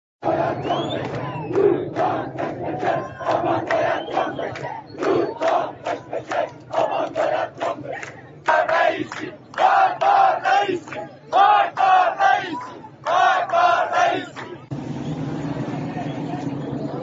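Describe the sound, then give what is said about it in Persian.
A large protest crowd in Iran, at the anti-price-rise protests of Ordibehesht 1401, chants in loud, rhythmic bursts of shouted voices, the cadence repeating steadily with a constant rumble of background noise and occasional traffic sounds. “همراه شما خواهیم بود پس از گذری به تظاهرات در ایران.”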